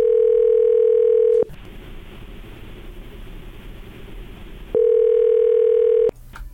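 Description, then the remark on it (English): An outgoing phone call's ringing tone: two long, steady electronic rings separated by a few seconds of hissy line noise, loud as if heard through the handset. “Oh, we're ringing. We're ringing.”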